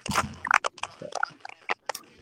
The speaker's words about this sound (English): Anybody got a chewed up pen? Sounds like mystery flipper's chewing his pen now.